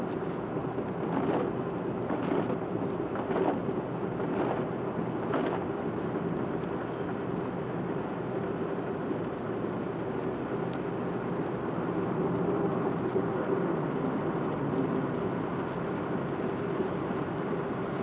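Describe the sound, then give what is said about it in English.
Steady rain hisses across the whole recording, with several low, brief rumbles early on that suggest thunder rolling under the downpour. No one speaks. “oh yeah, we got some rain.”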